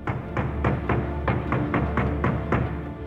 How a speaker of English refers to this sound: Planting his good hand on his sword hilt and tugging his helmet into place, he banged on the front door, ready for the confrontation.